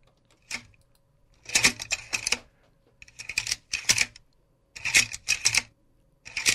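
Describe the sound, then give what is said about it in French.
A slide projector changing slides: mechanical clacking and whirring bursts repeat in clustered groups, each with sharp clicks and a brief sliding rattle, fairly loud with short quiet gaps between. “C'est un projecteur de diapositives.”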